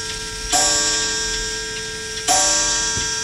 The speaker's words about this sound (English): it's going to ring quite a few times. I did the same thing last time you were here. What? Forgot the clock struck. The clock, yeah, did.